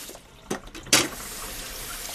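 A daughter washes dishes at home under a running tap: two sharp clattering bursts of crockery, then a steady hiss of flowing water continues to the end. No one speaks.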